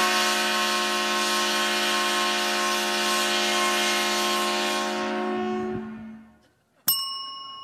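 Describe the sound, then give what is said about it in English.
A loud, steady 130-decibel train horn, sounded each time the Purdue Boilermakers football team scores a touchdown, blares for about six seconds with a rich, sustained tone, then fades out, followed by a brief bright ding at the end. “You'll hear this 130 decibel sound every time this train-themed Big Ten team from Indiana scores a touchdown.”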